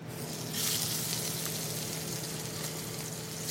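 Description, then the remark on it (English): Prawns sizzle steadily in a hot frying pan for a dish with mango chow and cherry peppers at the Global Fusion restaurant in Boston, a dense crackling hiss with faint pops that swells briefly near the start and holds at a moderate level. No one speaks. “Prawns sizzle in a pan for a dish with mango chow and cherry peppers”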